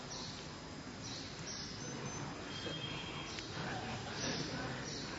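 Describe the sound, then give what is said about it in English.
Faint birds chirping in scattered short calls over a steady hiss of background noise, with no voices. “I want to bring you back to that forest of kadamba trees where there's just the buzzing of bees and the chirping of birds.”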